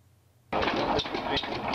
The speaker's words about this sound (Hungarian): van ott egy gyönyörű Lorenz stabil motor. Na jó. Egy hengeres. Régóta vágyok egy jó stabil motorra. Hallgass, hogy milyen szépen huttyog.